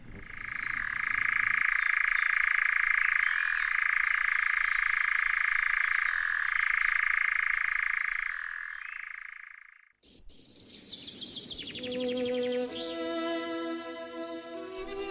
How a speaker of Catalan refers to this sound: Doncs acabem tornant a escoltar el cant ben curiós d'aquest ocell, l'enganyapastors.